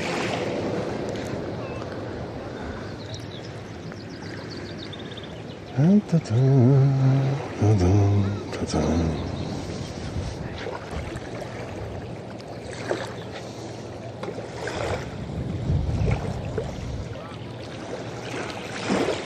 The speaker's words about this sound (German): Hört ihr das? Die Wellen? Das hat die Fellowship verursacht. Sie hat Wellen geschlagen.